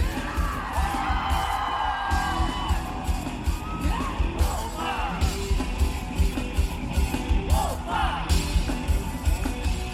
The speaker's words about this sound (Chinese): 和摇滚乐手结为一体，欢呼、鼓掌、蹦跳和舞动，脉搏也跟着加快了速度。